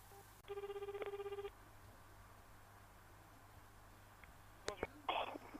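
A single burst of telephone ringback, a warbling electronic tone lasting about a second, then a stretch of quiet line hiss and a few handset clicks as the call is picked up; a radio program host phoning a guest.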